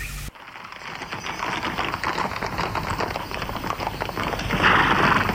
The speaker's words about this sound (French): Montait à cheval et s'est éloigné.